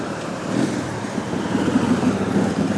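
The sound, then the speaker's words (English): A steady, low, throaty engine rumble from a couple of Harley-Davidson motorcycles rolling past on a road, holding at an even loudness throughout with no talking. “Couple Harleys going by. Jesus, road's busy.”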